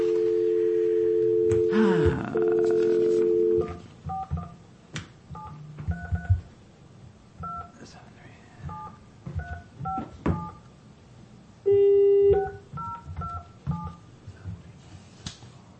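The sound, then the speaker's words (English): A steady dial tone gives way to a quick series of telephone keypad beeps, each short two-pitch tone pressed in uneven bursts, with a brief ringback tone midway and faint room noise beneath, as a call is placed from a Taney County Board of Equalization session. “But let's get him on the phone, let him talk to us.”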